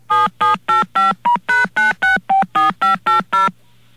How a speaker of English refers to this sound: You know what those are? Those are touch tones. And the phone company didn't do that. I did that. I pressed the buttons. This phone here is responsible for those tones. The tones come from the telephone.